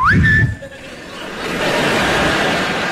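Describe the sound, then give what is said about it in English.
Comedian Billy Gardell imitates a Navy whistle call, as if blown in the kitchen: a single whistled note that swoops upward and holds briefly, then gives way to a loud, sustained breathy hiss. “Come down in the kitchen, blow that Navy whistle.”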